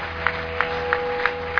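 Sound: audience clapping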